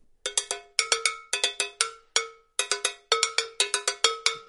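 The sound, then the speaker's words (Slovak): Agogo bells, a pair of two bells, struck in a quick, syncopated pattern, bright metallic clanks alternating between two pitches, each hit ringing briefly before the next, with no voices present. “Gogobely, to sú dva zvonce, ktoré tiež vytvárajú zvuk.”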